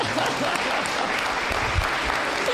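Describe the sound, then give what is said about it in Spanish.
A crowd applauds steadily, a dense wash of many hands clapping at an even loudness throughout, with a few low murmurs mixed into the clapping. “¡Un aplauso!”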